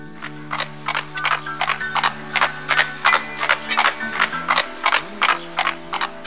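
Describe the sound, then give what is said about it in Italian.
Horse hooves clip-clop in a steady, even rhythm, clear, as two young people ride away together on horseback, with sustained musical tones playing softly underneath the whole time. “Vieni, Candy, sali sul mio cavallo. Ti riaccompagnerò io a casa.”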